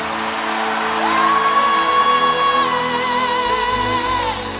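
A large crowd shouts the name Jesus and cheers together, loud, while one voice holds a long, high sustained yell over the roar for several seconds.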